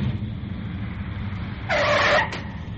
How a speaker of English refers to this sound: So now, with total quiet, absolute quiet in the cockpit, Dr. Duncan concentrates. Dr. Duncan, put on the brakes.